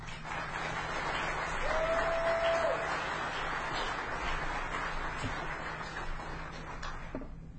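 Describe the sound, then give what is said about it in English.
An audience applauds steadily for several seconds for the presenters at the end of a talk, a dense wash of many hands clapping at an even level with no talking. A brief thin whistle-like tone rises over it early on. “so big round of applause.”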